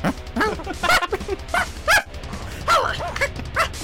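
About eight short, high-pitched yapping dog barks come in quick, uneven bursts over a steady, pulsing music beat, bright and fairly loud against the song.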